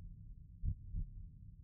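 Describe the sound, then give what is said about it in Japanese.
A soft, muffled heartbeat thumps twice in a slow, low lub-dub rhythm over a faint continuous low rumble with no voices. “原子の音、心臓の鼓動、聞こえるね。”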